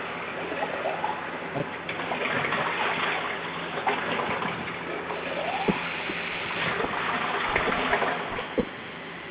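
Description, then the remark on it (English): Water runs steadily from a tap for several seconds, a continuous gushing splash as a dog's water bowl fills, with a few small knocks and clinks along the way and no talking. “I had to fill up the water. Dogs need their water.”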